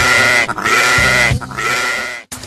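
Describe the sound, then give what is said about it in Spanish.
Young goats bleat loudly in long, wavering, high-pitched cries, about three in a row with short breaks between them. No voices are heard. “Porque los chivitos no quieren andar.”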